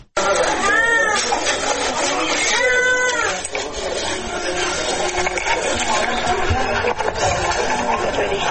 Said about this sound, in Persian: نوزادانی که از گرسنگی ناله می کنند و به جای آغوش مادر به بستر شفاخانه رفتند.